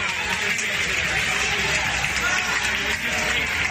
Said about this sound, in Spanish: La noticia del restablecimiento de la circulación, que se producía sobre las 11:30 de la mañana, se ha recibido entre aplausos por los centenares, si no miles, de viajeros que esperaban en la estación de Sants, en Barcelona.